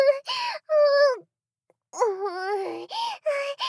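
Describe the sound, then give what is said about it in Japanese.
A loud human voice mimics a dog's whining, with a run of high, wavering yelps and whimpers, a short silence, then another string of drawn-out, quivering whines. “メスイのミオは、わわ泣きます”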